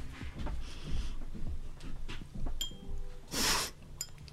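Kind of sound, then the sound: household object, glasses clinking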